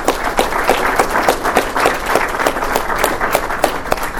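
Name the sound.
audience applause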